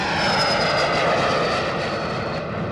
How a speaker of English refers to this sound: On takeoff, they're even louder than this Bombardier Challenger corporate jet